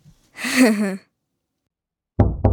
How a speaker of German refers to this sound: Da klopft jemand an unsere Klassenzimmertür. Sieh, darf ich geschwind die Tür aufmachen?